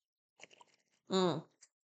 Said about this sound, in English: I'm going to take a sip of my water.